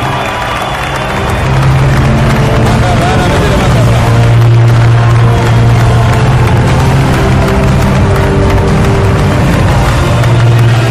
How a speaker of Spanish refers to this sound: Desde aquí, un aplauso para los vecinos de los Alcázares.